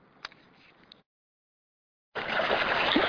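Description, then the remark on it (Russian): Faint watery lapping with a few small splashes, a second of silence, then a loud, continuous rush of waves washing over stones near a narrow iron footbridge about a foot wide. No one speaks. “А вот с читателем можно послушать, как шумит волна у камней недалеко от железного мостика шириной со ступни.”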